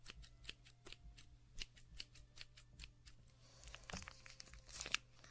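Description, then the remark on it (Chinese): Scissors snip repeatedly at a milk package to cut an opening, a quick series of sharp clicks, followed by crinkling and tearing of the packaging near the end. No one speaks. “剪刀好像不好用，等着去买个新的。”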